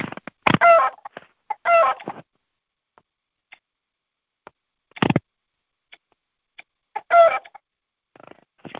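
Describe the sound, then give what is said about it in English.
A chicken clucks in several short, harmonic bursts spaced a few seconds apart, clear, with faint ticks and small knocks filling the gaps between calls, as it is being brought over into a chicken coop. “getting that chicken over here into my chicken coop.”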